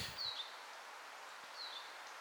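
Two thin, squeaky calls of a bright yellow Eurasian siskin that has just flown in, each sliding downward in pitch, spaced over a second apart and fairly faint against a soft outdoor hiss with a little rustling.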